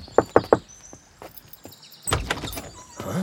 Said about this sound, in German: Da ist es besser, wir klopfen an.